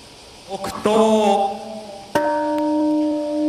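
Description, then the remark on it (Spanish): The Peace Bell in Hiroshima, Japan, is struck at the commemoration of the 80th anniversary of the atomic bombing, its low sustained tone humming with rich overtones, then struck again about a second and a half later, the second ring lingering and slowly fading. “Y allí ha sonado una vez más la campana de la paz en recuerdo de las más de 200.000 víctimas mortales que las bombas nucleares dejaron en esa ciudad el 6 de agosto de 1945 y tres días después en la ciudad de Nagasaki.”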